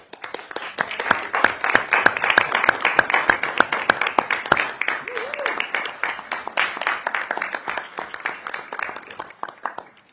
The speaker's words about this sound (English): Please stand up so we can give you a nice round of applause.